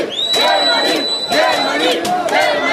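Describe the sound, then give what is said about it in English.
A large crowd of migrants chants loudly in unison at the train station in Budapest, voices rising in repeated rhythmic bursts about every half second, with a thin steady high whine running through the first half. “At the train station in Budapest, migrants make it clear where they want to end up.”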